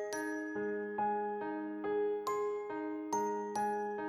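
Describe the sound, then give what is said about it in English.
Jingle bells ring out in a steady, even rhythm, about two strikes a second, each bright jangle leaving a sustained shimmering tone. Moderately loud, with no voices. “I've got my jingle bells at the ready.”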